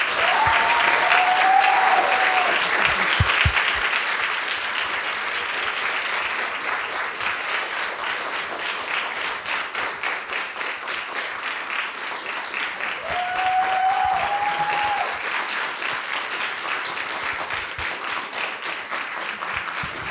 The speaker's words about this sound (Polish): Wielkie brawa.